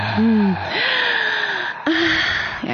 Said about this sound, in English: So it's just a really nice deep breath, not a forced breath, that you're just breathing in. And you're breathing out. Oh, we can do some real heavy breathing here, baby.